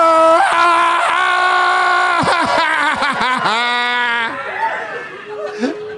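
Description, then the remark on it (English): A live audience at a sold-out show in Rosemont yells and screams loudly on cue in a sustained roar for about four seconds, voices rising and wavering, then it thins out into scattered shouts and cheers. “Everybody yell, oh, too. Everybody yell.”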